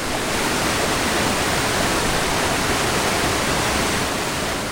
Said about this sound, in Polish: to są walory przyrodnicze, jakie tutaj widać, czyli wodospad, czysta rzeka, no i przyroda dookoła, nie? No i ten młyn, na który patrzymy teraz. Możemy wejść nawet pod wodospad, jakby ktoś chciał.